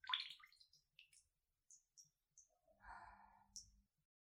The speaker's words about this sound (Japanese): まだまだ薬は残ってるし、どうせだからもっと私色に染まっちゃおっか。ほら、ポタポタって。